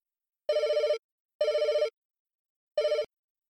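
A restaurant telephone rings in three loud, trilling bursts with short pauses between them, clear with no voices present.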